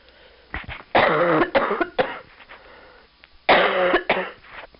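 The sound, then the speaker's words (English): Muffled coughing of one person in two fits: a run of harsh coughs near the start, then a pause and a second strong burst trailing into smaller coughs and throat sounds. “These muffled pauses will be my coughing.”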